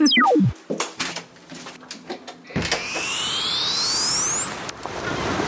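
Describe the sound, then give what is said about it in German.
A falling tone and a few clicks and knocks give way to a rising whoosh, then a steady wash of Baltic Sea waves breaking on a beach at Gdynia, Poland, that cuts off abruptly near the end. “Wow, für diesen Ort wäre ein Badeanzug die angemessene Kleidung.”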